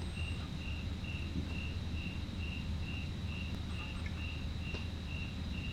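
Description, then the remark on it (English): Crickets chirp in a steady, even rhythm of short repeated pulses, with a constant high trill beneath them and a soft low rumble filling the background. No one speaks. “There are all kinds of things you could focus on right now. The sound of the crickets, the distant sound of the traffic.”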